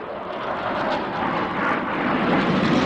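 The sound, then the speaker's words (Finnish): A loud, continuous roar of fighter jets performing daring flight manoeuvres overhead at a Saudi Arabian military parade in late April, a broad rushing engine noise that swells slightly toward the end, with no voices. “Hävittäjälentäjien huimapäisten lentokuvioiden sijaan paraatin hämmästyttävin veto oli Kiinasta 27 vuotta sitten hankittujen ohjusten tuominen julkisuuteen ensimmäistä kertaa.”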